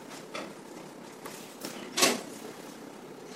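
A sliding door is opened a little with a few soft scraping rattles and one louder clack partway through; nobody speaks.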